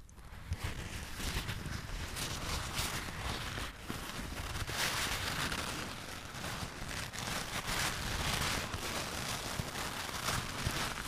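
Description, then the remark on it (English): A piece of tissue or kitchen paper crinkled steadily for about eleven seconds to create an ASMR sound, a dense, bright crackling and rustling with no pauses and no voices over it. “This is a piece of tissue paper or kitchen paper.”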